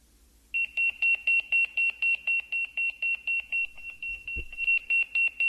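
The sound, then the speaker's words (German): A Motorola Pageboy 2 pager, set as an alarm clock, beeps in a fast, steady series of short, high-pitched tones, about a dozen pulses, clear, with a brief low thump partway through. “Voilà, der tote Wertgereich vom Motorola Pageboy 2. Und Motorola Pageboy 2 hat einfach gepiepst.”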